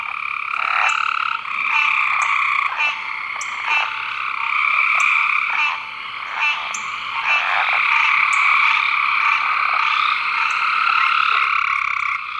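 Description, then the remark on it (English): A dense, continuous chorus of gray tree frogs, chorus frogs, southern leopard frogs and American green tree frogs, with overlapping trills and croaks pulsing steadily and loudly and no voices, at dusk in March 2003 in a swampy area of the Chickasahatchee Wildlife Management Area, Georgia, about 200 miles south of Atlanta. “You can hear gray tree frogs, chorus frogs, southern leopard frogs, American green tree frogs.”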